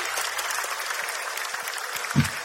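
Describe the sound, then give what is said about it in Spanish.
Steady audience applause at the end of the show Hablando Huevadas fills the whole stretch, a dense wash of many hands clapping at even loudness, with a brief low thump near the end. “Y hasta aquí, Hablando Huevadas, un fuerte aplauso.”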